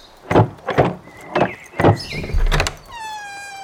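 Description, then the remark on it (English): A house door creaks open with a drawn-out, high squealing groan, preceded by a few heavy wooden thumps and rattles. It is fairly loud, with no voices. “Open the door, Zeb.”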